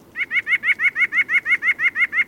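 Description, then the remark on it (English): A white-breasted nuthatch, a petite songbird, sings a rapid series of about thirteen identical nasal notes, evenly spaced like quick laughter, clear with no other sounds. “They're petite songbirds that walk upside down on tree trunks looking for food, and their song sounds a bit like laughter.”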